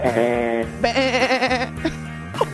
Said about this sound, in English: We got definitely sheep and goats.